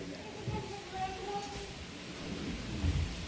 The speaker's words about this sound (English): It's raining outside, but and it could be raining inside too.